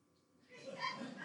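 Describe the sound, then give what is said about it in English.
A dog wanting donuts on the other side of a window whines in a thin, high-pitched, drawn-out tone that begins after a brief quiet moment and continues steadily, fairly soft. “That dog wants those donuts. It's right on the other side of that window.”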